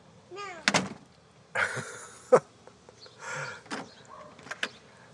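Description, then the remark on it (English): A door is handled: squeaky creaks and rattling scrapes as it swings, broken by three sharp thuds spaced a couple of seconds apart as it bangs shut. “She needs to work on her door manners.”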